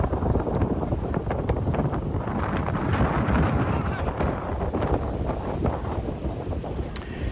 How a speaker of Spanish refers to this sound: Al fondo, a pesar del fuerte viento en la zona, se acerca a toda velocidad una lancha, una embarcación semirrígida, negra, de potente motor, con la posibilidad de llegar a alcanzar velocidades superiores a los 100 kilómetros por hora.